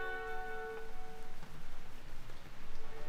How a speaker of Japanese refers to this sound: 切り株に腰掛けて眺めていた夕日が沈みきらないうちに雨が降り始めた。